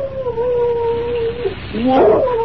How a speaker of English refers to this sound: I'd have sworn I heard something out here. What's that? Just a shadow, I guess. But just the same, a dog. That's what I heard.